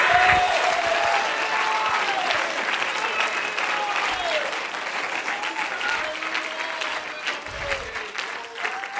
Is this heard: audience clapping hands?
yes